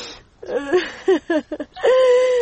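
woman crying

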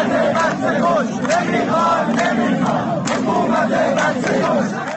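protesters chanting slogans

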